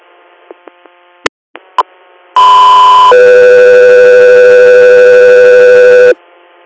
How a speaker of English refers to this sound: Go through here, stand by for tones.